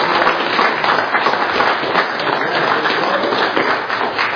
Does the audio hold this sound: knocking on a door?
no